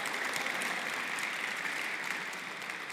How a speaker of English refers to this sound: And yes, yeah, you can clap now.